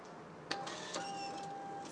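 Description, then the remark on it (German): A ticket machine prints a second ticket: a steady mechanical whir with a thin high whine, broken by two sharp clicks, and no one speaks. “Oh, wir kriegen einen zweiten Fahrschein.”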